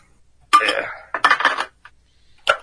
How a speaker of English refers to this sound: What the fuck was that? That was me moving my coffee pot back into place. Is that a chainsaw like gap? It sounds like somebody was dying.